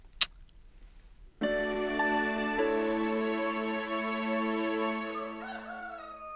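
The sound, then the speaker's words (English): A rooster crows once at first light in the morning, a loud, drawn-out call held for several seconds that wavers and breaks off at the end, preceded by a brief faint click in otherwise quiet surroundings. “Next morning, when the first light came into the sky and the sparrows stirred in the trees, when the cows rattled their chains and the rooster crowed and the early automobiles went whispering along the road, Wilbur awoke and looked for Charlotte.”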